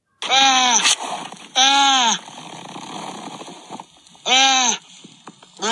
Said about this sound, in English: But let me play it for you again. This is a seal probably begging for food.